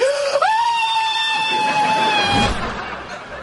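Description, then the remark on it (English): A woman lets out one loud, sustained scream during tattoo removal; it jumps up in pitch and holds shrilly for a couple of seconds before cutting off, leaving a faint noisy tail. “I heard a woman screaming in here.”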